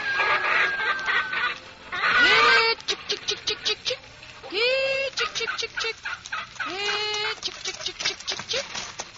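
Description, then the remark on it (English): Several hens on a farm cluck busily, a steady jumble of short clucks broken by a few louder, drawn-out squawks, with no voices. “Oh, I'd go on with the chores around the farm, feed the chickens and tend the garden day after day.”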